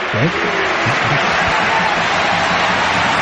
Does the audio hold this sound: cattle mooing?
no